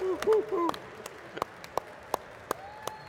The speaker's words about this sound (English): Everyone give them a round of applause.